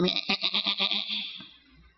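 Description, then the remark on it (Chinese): A young goat with its two feet caught in a dense thicket lets out one long, quavering bleat with a rapid wobbling pulse, clear, trailing off after about a second into quiet. No voices accompany it. “他举目看到后面一只山羊羔，两只脚扣在稠密的小树丛里头，他就取来献祭代替他的儿子。”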